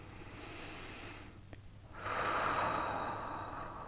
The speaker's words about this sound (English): You're breathing in and you're breathing out.